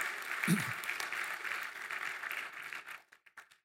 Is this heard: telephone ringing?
no